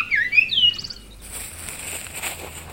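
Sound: bird chirping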